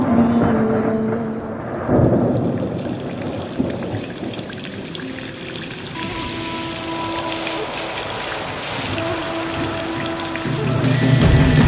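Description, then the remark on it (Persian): Steady rain patters continuously, with a dense hiss of drops and a few faint tonal sounds underneath, moderately loud, with no voices. “هوا بارونیه، هوا بارونیه.”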